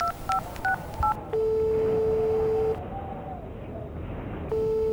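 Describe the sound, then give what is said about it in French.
Four quick beeps of telephone keypad dialing tones as someone calls a friend, each a short two-note chirp, followed by a long steady ringing tone on the line, a pause, then the tone starting again. “Ouais, j'appelle un ami à moi.”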